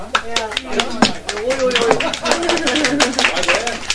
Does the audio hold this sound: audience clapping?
yes